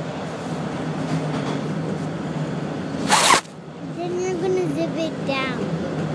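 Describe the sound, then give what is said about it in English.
A father's coat zipper is pulled by a young child in one quick, loud rasp, set against a steady rumbling background, with voices talking after the zip. “But I'm going to get cold when I go outside if you zip it, if you unzip my coat.”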